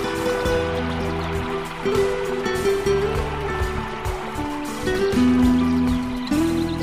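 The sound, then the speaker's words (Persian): Steady rushing water fills the background, mixed with sustained musical tones that shift pitch every second or so. No one speaks. “صدای پای آب.”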